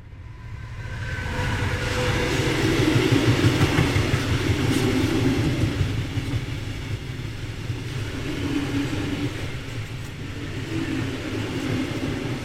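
A train rolls steadily along the rails, a continuous deep rumble with a faint rhythmic clatter, fairly loud, swelling slightly midway before settling. No voices are heard.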